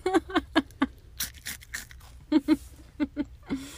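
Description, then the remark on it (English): Crisp crunching of someone chewing dry cereal, crunchy cinnamon squares from Whole Foods, a quick series of bites and chews in bursts with short pauses, loud, no talking. “Eating what was called crunchy cinnamon squares from Whole Foods while we're podcasting.”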